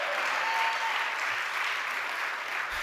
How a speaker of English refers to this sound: Everybody clap your hands and say amen.